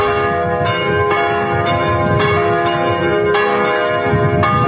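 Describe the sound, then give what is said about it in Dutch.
Church bells peal continuously in the inner city of Groningen in the evening between 7 and 7:15, rung at the call of the Raad van Kerken, several bells overlapping in a rich, ringing wash with regular strikes roughly every half second, loud and sustained with no voices. “De klokken luiden voor hoop en troost.”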